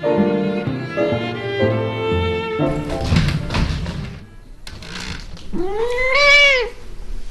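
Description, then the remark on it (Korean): A single clear meow from Nala, a grey tabby cat famous on the internet, in California, near the end, rising then falling, follows a stretch of tonal sounds and some bumping and rustling. No one speaks. “첫 번째 이야기, 인터넷의 인기 스타 백만장자 고양이 날라.”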